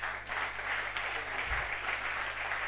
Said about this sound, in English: Most often when we are asked to give Jesus a clapping offering, we clap our hands without the consciousness of the fact that we are doing it to Jesus. It reveals how we do it when we clap.